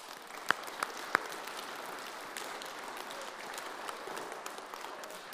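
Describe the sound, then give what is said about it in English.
A crowd applauds steadily for several seconds to thank helpers for their hard work, a dense wash of clapping with a few sharper claps standing out near the start. No one speaks. “So I want you all to give everyone a wee round of applause and to thank them for all their hard work.”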